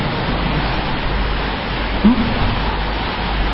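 Steady rain pours down in a continuous, even hiss that fills the whole scene, with no pauses and a brief small bump partway through.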